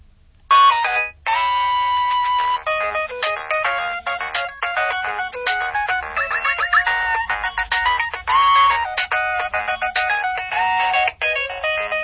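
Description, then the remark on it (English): A mobile phone ringtone plays a busy, bright electronic melody continuously for several seconds, loud, with a low rhythmic buzzing of the phone's vibrating alert pulsing underneath. “You may be able to hear that it's vibrating as well. It's got a vibrating alert, which is great in those noisy environments.”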